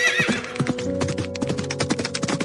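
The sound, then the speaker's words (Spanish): A horse whinnies loudly at the start, followed by a rapid, continuous clatter of many hooves as a herd of horses romps through the vegetable plots of a farm at night, with no voices present. “Una noche, él y sus hijos escucharon a un tropel de caballos retozando entre sus hortalizas.”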